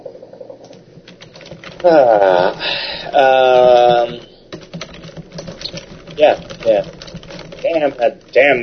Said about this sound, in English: Damn, that's loud typing. Huh. See, this time I put you between the keyboard and the microphone, though, so...